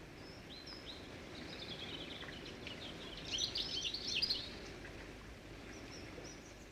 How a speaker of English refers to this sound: Grey weather again. The birds could only produce a thin thread of a song.